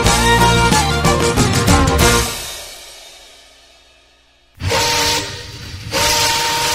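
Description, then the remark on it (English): A steam train whistle blows loud in long harmonic blasts, fading away over a few seconds before sounding again twice, with no voices. “Freedom train. Leaving on track 1961 and 1962.”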